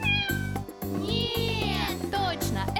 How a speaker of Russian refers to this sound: Кошка! Да!